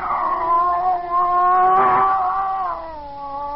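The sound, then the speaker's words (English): A scrawny cat named Clara, back arched, facing a bushmaster snake by a stove aboard a vessel, yowls in one long, wavering cry that rises and falls in pitch for a few seconds, loud, with no other sounds around it. “Slowly, it moved out into my line of vision. It was a cat.”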